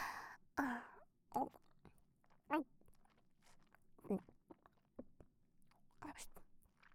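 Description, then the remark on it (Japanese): Wet chewing of soft, mushy food passed over from another person's mouth, in irregular squelchy bursts, with soft breaths and sighs between the mouthfuls. “ダーリンが私の口に入ったものを咀嚼してる姿、いい？”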